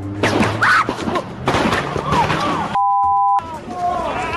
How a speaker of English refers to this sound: And two police officers shot in Ferguson, Missouri. Here's the gunfire caught on cell phone video and St. Louis County Police Chief ….